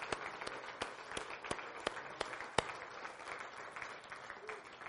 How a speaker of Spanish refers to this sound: Demos al Señor un aplauso.